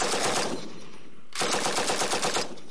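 Rapid bursts of automatic machine gun fire, a dense rattling stream that stops briefly before a second sustained burst, loud, with no voices.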